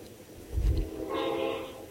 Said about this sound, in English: There's a train. Train-tastic. Lots of trains. On Saturday night.